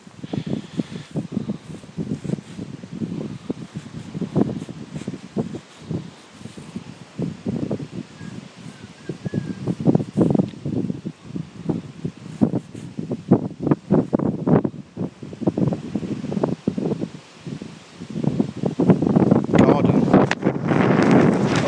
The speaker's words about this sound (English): Windy.